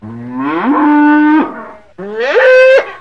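Two loud, drawn-out cow moos, each rising in pitch and then holding steady before cutting off, with a brief pause between them. No one speaks.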